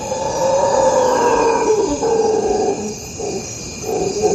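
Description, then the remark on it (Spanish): Distant howler monkeys roar at a nature reserve on the banks of the tropical Magdalena River in Colombia, in a continuous, droning chorus that swells and eases over a few seconds, with no voices and a steady wash of background noise. “A lo lejos se oye el rugido de los monos aulladores.”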